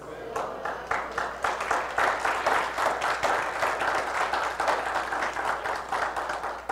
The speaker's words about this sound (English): Are you clapping for the stupid part or the love part? Or both?